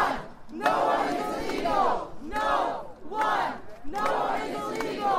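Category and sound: crowd, protest crowd chanting slogans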